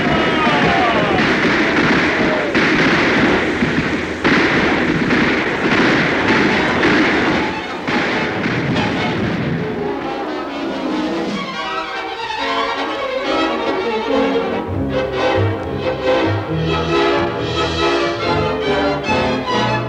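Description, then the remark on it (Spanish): A loud train rumbles along the rails toward a curve with a steady rhythmic clatter for several seconds, then gives way to a busier, tonal passage that sounds like music. “El tren está llegando a la curva.”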